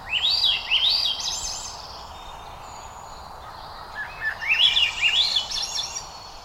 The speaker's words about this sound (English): This is not a flying saucer hovering over western Arkansas. Little green people are not taking over Earth. This is Swainson's thrush, not a Martian, but rather a modest olive-backed bird, cousin to our familiar robin.